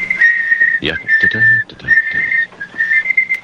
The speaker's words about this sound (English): Yeah. That sounds like an alarm clock. I know. And there's no alarm on this that I know of. Is the tape out? The tape's out. Still doing it.